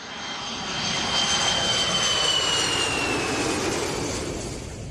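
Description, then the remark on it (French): A steady airplane engine roars throughout, a broad rushing drone with a high whine on top, swelling slightly in the middle. No one speaks. “Et moi, pour arriver sur cette île, j'avais pris 3 avions différents.”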